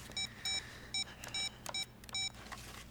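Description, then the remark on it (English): A telephone ringback tone: six short, bright electronic beeps pulse at a steady quick rhythm over a faint low background hum, with no one speaking. “Yeah, at least it's ringing this time.”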